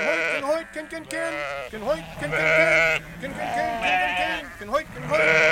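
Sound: sheep bleating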